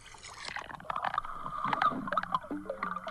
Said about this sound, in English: That's her swimming. It's so musical. Yeah. I got 10 of those of her underwater and the swimming.